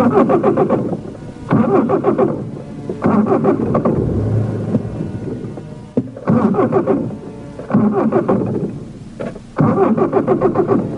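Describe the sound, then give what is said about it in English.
A car engine cranks repeatedly in loud, rhythmic bursts, about five attempts separated by short pauses, whirring and sputtering without ever catching and starting. “It won't turn over. I think we're out of gas.”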